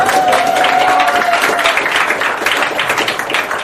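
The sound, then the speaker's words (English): A crowd bursts into loud, sustained applause for the Hungarian hosts, a dense wash of many hands clapping at once, with a faint whistle-like tone riding over it early on before the clapping continues steadily. “Of course, round of applause for Hungarians, our host, please.”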